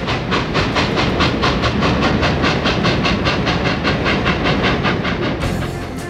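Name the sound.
train running on rails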